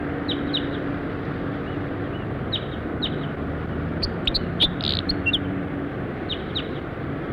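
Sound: bird song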